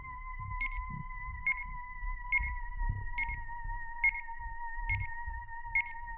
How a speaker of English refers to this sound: A continuous, frantic series of beeps came from the watch as a smell of what he could only describe as purple washed over him.